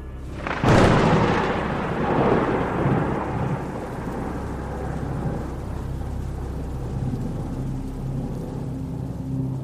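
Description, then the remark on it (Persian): A sharp, loud thunderclap cracks near the start, then rolls and rumbles away over several seconds while steady rain hisses underneath. No voices. “همین که داشتم بیهوش میشدم باز یه صدای رعد و برق خیلی محکم اومد.”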